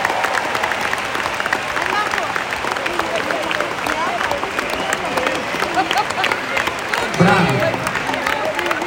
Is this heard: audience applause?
yes